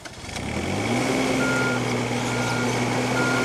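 A delivery van towing a trailer with a small excavator on it is stuck. Its heavy engine rumbles and revs with a steady diesel drone and a faint intermittent beeping like a reversing alarm. No voices.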